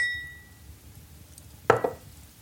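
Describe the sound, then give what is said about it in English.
A faint, ringing glass tone fades at the start, then two quick knocks of glassware clink against each other or a hard surface as drinks are topped up, with no one talking. “I'll get us top-ups. Give me your glass”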